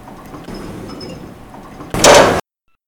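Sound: elevator doors sliding open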